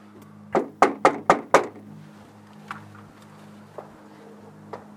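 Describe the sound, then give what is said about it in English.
Five firm knocks on the front door of a house in a quick, slightly uneven run, loud, followed by a few faint scattered taps against a low steady hum. “Right next to the door I was knocking on, there was another door.”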